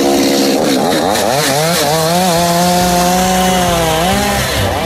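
A loud chainsaw runs, its engine revving up and down as it bites into wood, a continuous buzzing whine with no talking.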